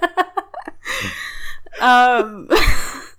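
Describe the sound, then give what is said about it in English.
Heavy breathing: a few short puffs, a long rushing exhale, then two loud, voiced gasping breaths, with no words spoken. “Well, I'll try to stop breathing.”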